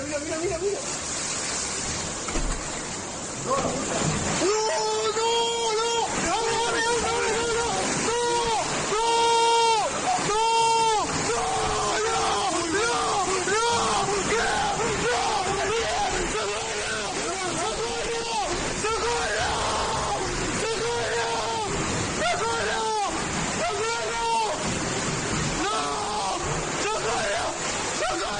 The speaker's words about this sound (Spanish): Covisa, provincia de Toledo. El torrente de agua rompe el muro de una casa.